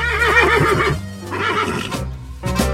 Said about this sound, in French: On va aller fréquenter ces animaux. Là, je parle des chevaux.